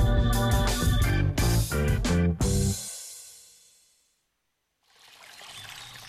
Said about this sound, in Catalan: Així sona una bona hidratació. Així sona l'aigua del Parc Natural del Montseny. I des del 1976, Font Agudes protegeix la seva puresa perquè tu en gaudeixis cada dia.